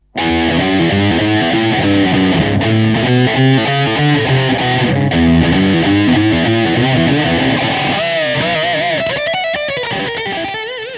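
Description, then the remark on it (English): Heavily distorted electric guitar, played through the Super Distortion patch on a 5052, plays loud, saturated chords and riffs with a thick, buzzy tone, ending in a wavering sustained lead note that slowly fades. No talking. “Next up, coming at you on the 5052, this is called Super Distortion.”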